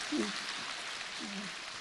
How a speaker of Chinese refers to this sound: 鼓掌